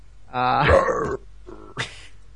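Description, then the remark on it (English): A person imitating an alien monster growls out a loud, strained roar lasting under a second, followed by a shorter, quieter guttural vocal sound and a sharp breathy burst. “comes up and starts roaring.”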